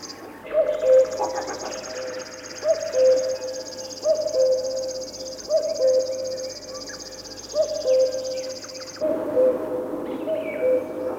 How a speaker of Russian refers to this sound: Не думайте, что это стрекочет кузнечик. Это песни камышовки. Птица очень осторожна, и увидеть ее нелегко. Зовут ее речным сверчком.